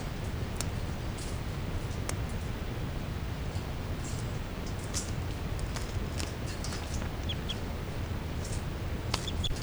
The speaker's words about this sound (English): Now all the birds are calling stuff.